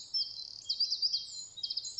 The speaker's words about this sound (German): der Zaunkönig, das ist ein Vogel, der recht klein ist, aber sehr kraftvoll singt und der seine Stimme weit tönen lässt